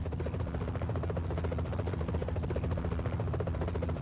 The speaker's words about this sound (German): In diesem Moment schwebt ein Helikopter über Andy, Tanner, Michael und Kit.